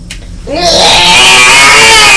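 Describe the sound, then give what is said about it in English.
An electric bread knife slicing bread whirs into life after a brief pause, its loud motor whine rising in pitch, then holding a steady, buzzing drone with no one talking. “This is the electric bread knife.”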